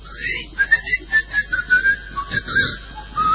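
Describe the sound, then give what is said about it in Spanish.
A person whistles a short, wandering melody of thin, wavering notes in an uneven rhythm, with soft breathy and rustling background noise underneath and no talking. “Tose, silba por ahí.”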